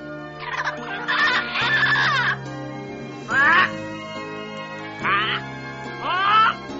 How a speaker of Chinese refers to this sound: 突然雨林里传来金刚鹦鹉的叫声，给了爸爸灵感。